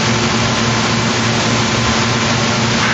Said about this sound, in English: Before we begin today, can we turn off the air conditioner and then we'll pray, because that thing makes so much noise. Open up a little flap.